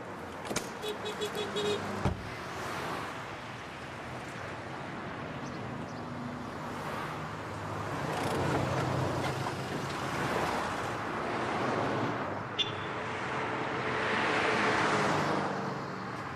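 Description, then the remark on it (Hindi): A car rolls up with a steady, swelling engine and road rumble, preceded by a quick series of clicks and clunks like doors and a power window, with no talking. “लो ये रही गाड़ी, अब तुम जा सकते हो।”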